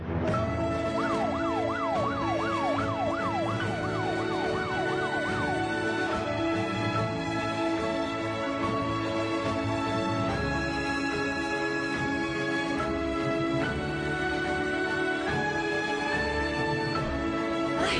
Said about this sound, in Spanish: ¿Por qué estamos escuchando la música de la Lotería de Navidad? Del sorteo del 22 de diciembre.